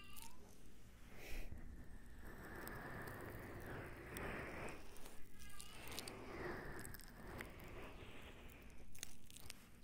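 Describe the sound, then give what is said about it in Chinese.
A kitten meows in drawn-out, wavering cries, steady over a constant crackling, rain-like hiss, with no one speaking. “连小猫咪都这么觉得，很轻松。”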